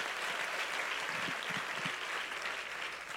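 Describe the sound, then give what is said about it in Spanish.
A steady wash of audience applause, many hands clapping at once in a dense, even crackle that holds at a constant level for a few seconds, with no voices standing out. “Si usted quiere, aplauda y hágalo bien.”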